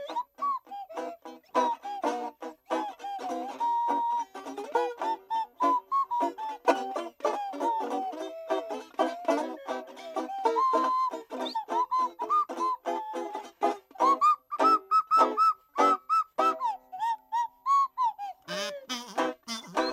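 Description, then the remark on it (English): A slide whistle glides up and down in playful swoops over a busy, upbeat band backing, the bright tone riding on top of drums and other instruments throughout. “Play that slide whistle.”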